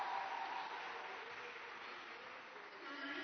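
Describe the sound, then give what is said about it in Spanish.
An audience applauds a group of women who trained together, a dense wash of many hands clapping steadily that holds at an even, moderate level for about three seconds with no voices over it. “Vamos a aplaudir por ellas.”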